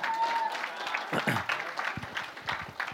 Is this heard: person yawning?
no